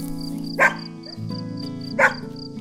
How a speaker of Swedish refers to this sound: Gnäll och skäll och tramp av fyra tassar. Det är bara hunden som vill komma in, säger Bubblan.